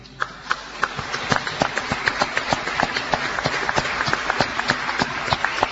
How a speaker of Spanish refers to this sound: Se muere de vergüenza, dice que no corresponde el aplauso, en fin.